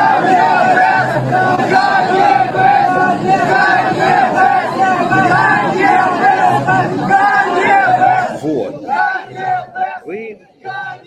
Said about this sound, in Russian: А вот это вот я хочу вам показать, значит, смотрите. Вот это вот видео, стоит толпа, которая кричит.